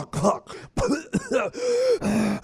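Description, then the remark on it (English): A voice imitates the choking, strangled gasp of sleep apnea after snoring, when the tongue falls back in the throat: a few rough throaty bursts followed by drawn-out, strained groaning breaths, fairly loud, with no words spoken. “There's the apnea-like snore where you're choking because your tongue has fallen back in your throat.”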